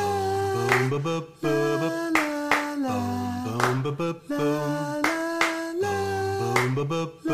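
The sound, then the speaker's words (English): Sharp hand claps, a demonstration of the clap for kids to add, land in a steady, repeating rhythm, roughly one every second and a half, over sustained chords of background music. No one speaks. “Now, kids, you're going to add a clap.”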